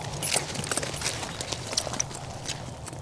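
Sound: horse hooves clip-clopping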